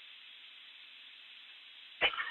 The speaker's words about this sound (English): We're coughing. Yeah, just got an accident. Coughing my lungs out.